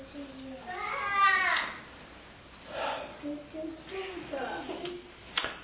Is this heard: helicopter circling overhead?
no